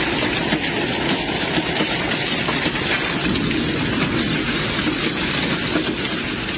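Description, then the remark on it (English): A dense, relentless clatter of large hail pounding a house in North Texas during strong winds, loud, countless impacts merging into a continuous roar with sharper hits poking through. No one speaks. “pulled out her phone to record as the hail pelted her home.”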